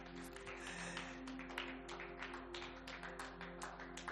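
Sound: audience clapping hands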